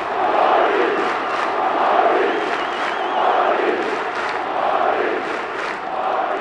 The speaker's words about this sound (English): And the crowd did not forget a familiar chant that rained out here and at the Meadowlands during a 3 Stanley Cup championship run.